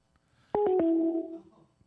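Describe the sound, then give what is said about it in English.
A few quick clicks of keys being pressed, then one steady electronic telephone keypad tone for pressing 1, held for under a second before fading. It is clear, with no one talking. “Call him back. Press 1.”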